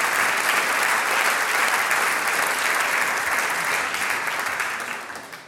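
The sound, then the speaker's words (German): A large audience claps steadily for a mayor and a municipal councillor, a dense, sustained roar of applause that holds evenly before tapering off toward the end. “Ja, ein Applaus noch einmal Bürgermeister Hans Bosch und Gemeinderat Franz Nebel.”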